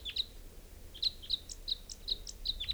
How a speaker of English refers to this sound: Recording type 5 bird coming in. Pointed at 395. Here's the wild bird.